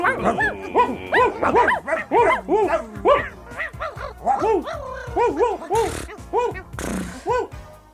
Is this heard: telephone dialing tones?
no